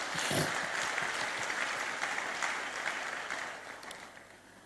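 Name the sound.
audience clapping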